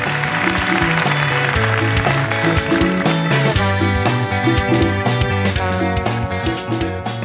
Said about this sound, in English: On that happy note, let's have a big round of applause for all of our guests tonight.